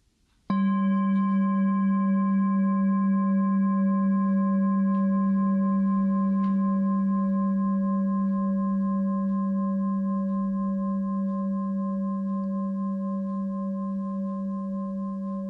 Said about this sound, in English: And following the sound of the bell as it moves through time.